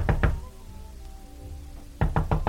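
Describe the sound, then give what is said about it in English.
Someone knocks on a door: two quick, solid raps, a pause of almost two seconds with only a faint low hum, then four firm, evenly spaced knocks. No voices. “Go on, answer it.”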